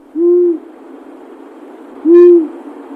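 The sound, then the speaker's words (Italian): Two short, clear whistled notes of a Eurasian scops owl, each a single metallic "tyoo" about two seconds apart, prominent over faint background hiss. “Il canto dell'assiolo è monosillabico, con tonalità metalliche che lo rendono molto diverso dal gufo comune, che pure ha una vocalizzazione con una struttura monosillabica ma molto più cupa.”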